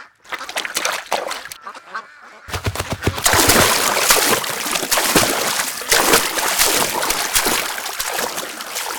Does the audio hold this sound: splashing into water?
yes